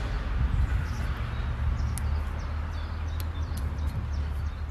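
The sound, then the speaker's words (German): Outdoor ambience by a moat, with scattered high bird chirps over a steady low rumble, the calls brief and fairly faint, spread across the few seconds without any talking. “Also wir sitzen hier um den Wassergraben, die Vögel zwitschern”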